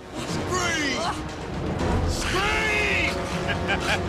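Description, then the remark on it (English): A car engine drives over a bridge in a steady, loud rumble, with strained, choking vocal sounds rising and falling throughout from a passenger being strangled with a seatbelt by the driver. “Brown powers the car over a bridge”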